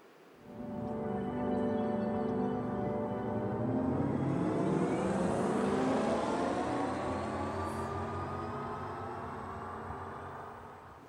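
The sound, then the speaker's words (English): A designed electric car sound, a potential sound based on the sound genetics for electric cars: a smooth, synthetic humming drone of layered tones that swells in over a second, holds steady and bright, then gently eases off, with no talking. “And now I would like to show you how a potential sound based on the sound genetics for electric cars could sound like.”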